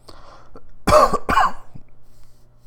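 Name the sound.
coughing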